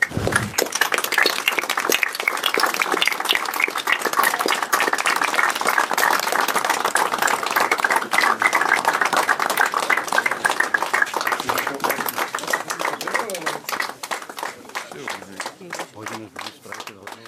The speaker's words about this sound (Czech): Já jen ještě dodám, že ten potlesk byl mnohem delší.